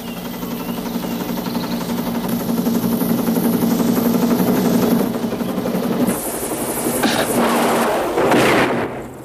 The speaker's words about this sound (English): A guard spots the chopper approaching in the prison camp.